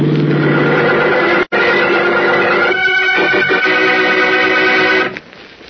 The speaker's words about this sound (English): Look out for that car, Howard! Holy smokes, he'll be killed! Howard, look out!